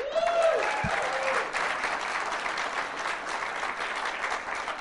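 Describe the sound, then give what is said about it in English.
An audience breaks into sustained applause in answer to a question about whether they enjoy Thursday night NFL games, a dense steady wash of clapping with a few brief cheers or whistles near the start, holding fairly loud throughout. “A lot of criticism about that kind of a program by applause.”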